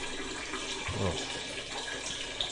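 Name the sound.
man urinating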